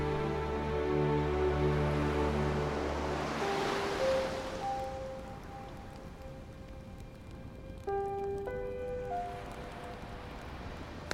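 Ocean waves wash steadily against the shore, a broad rushing surge swelling midway and again near the end, with sustained low musical tones humming underneath. No one speaks.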